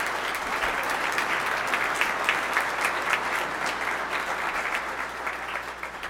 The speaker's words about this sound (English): Let's give these young people a little round of applause.